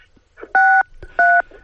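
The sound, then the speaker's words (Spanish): Two loud telephone keypad tones from a caller's phone during a radio phone interview, each a steady dual-pitched beep lasting about a quarter second, separated by a brief pause, over faint low background noise. “escuchamos con cierta dificultad, como si estuviera marcando teclas, a ver si puede tomar un poco de distancia con el teléfono.”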